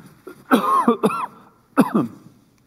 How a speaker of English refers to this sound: Excuse me, I'm going to cough.